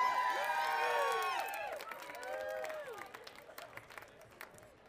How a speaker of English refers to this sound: You guys have to clap loud